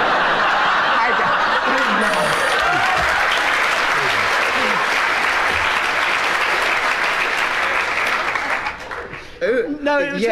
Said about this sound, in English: The applause absolutely floored Kenneth. Yes, indeed, it floored me.